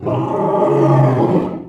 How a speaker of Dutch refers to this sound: De leeuw.